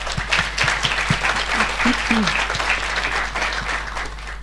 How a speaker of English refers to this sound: If we could give the speakers a round of applause, please.